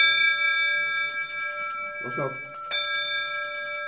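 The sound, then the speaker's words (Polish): A bright metal hospital bell, rung for the first time to mark the end of a patient's breast cancer treatment, rings out with long, sustained overtones, struck again near the end so the ringing swells anew, while faint voices murmur in the background. “że dzisiaj ten dzwon zadzwonił po raz pierwszy, ale jako przedstawiciel personelu medycznego naszego szpitala mam nadzieję, że ten dzwon będzie dzwonił bardzo często, ponieważ chcemy poprawiać wskaźniki wyleczalności chorych na raka piersi.”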